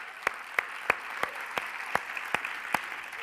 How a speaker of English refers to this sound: Well, let's just take a moment, and I know I've had you clap like 6 times already, but I want to make sure you're not falling asleep.